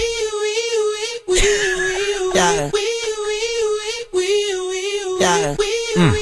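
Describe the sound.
A voice imitates a police squad car siren with a loud, sustained wail that repeatedly swoops up and down in pitch, cycling through the pattern about twice with brief breaks between.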